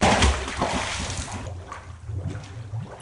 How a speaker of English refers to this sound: where engineers are building a 3-foot-long black cylinder filled with electrical circuitry. They test it by throwing it into a 12-foot-deep pool of water.